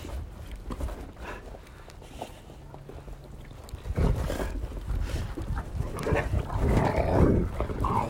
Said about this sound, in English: I think it's their bedtime. I think those dogs need to go to bed. I do. I think they need to go to bed.